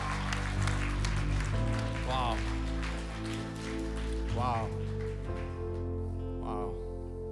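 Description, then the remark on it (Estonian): Steady audience applause fills the whole stretch, a dense patter of many hands over sustained music, with a few rising vocal calls or sung notes cutting through now and then. “Tahaks natuke suuremat aplausi Jeesusele, kes elab täna.”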